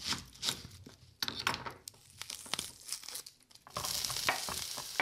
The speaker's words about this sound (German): kocht veganes Thai-Curry.